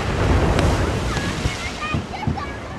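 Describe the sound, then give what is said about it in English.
Ocean waves surge and slosh against the massive concrete seawall surrounding the island of Malé, the capital, in a steady roar, with a few heavier splashes breaking through, wind buffeting the microphone and faint chirps or voices above. “Here in the capital of Malé, the entire island is surrounded by this massive concrete seawall. And for years, people have been repairing and reinforcing this wall to keep the ocean out.”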